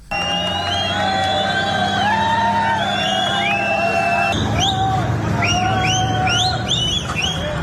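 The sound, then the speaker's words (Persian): A large crowd of Moroccan migrants, escorted by police toward the border crossing with Morocco in Ceuta, Spain, on a Saturday, shouts and yells continuously while many shrill whistles rise and fall over the din, overlapping throughout. The noise is loud, with no clear speech standing out. “صدای فریاد و سوت زدن یک گروه بزرگ از مهاجران مراکشی که روز شنبه در شهر خودمختار سئوتا در اسپانیا تحت اسکورت نیروهای پلیس به سمت گذرگاه مرزی با مراکش در حال انتقال بودند.”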